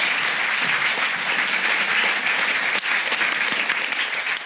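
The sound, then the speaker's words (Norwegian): Steady, sustained audience applause, a dense wash of many hands clapping at once, loud and even throughout with no talking over it. “Og så vil jeg at dere skal gi en skikkelig applaus.”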